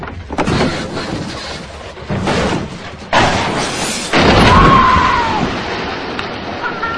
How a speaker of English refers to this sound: Alex takes the blue car to the edge of a deep quarry and pushes it over into the water.